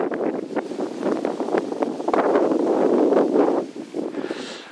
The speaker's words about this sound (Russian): Вот, вот сейчас нечто похожее происходит. Вот этот ветер.